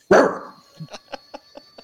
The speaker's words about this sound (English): Go Dogs. Get it. I'm waiting on a bark.